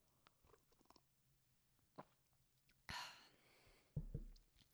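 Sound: sipping and swallowing water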